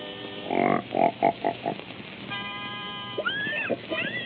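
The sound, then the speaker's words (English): A pig, presented as a singing pig being brought into pitch, grunts and oinks in a quick run of five or six nasal bursts, then lets out sustained, wavering squeals that rise and fall, fairly loud. “Hey, wait till you hear my singing pig. First, I gotta get him in pitch.”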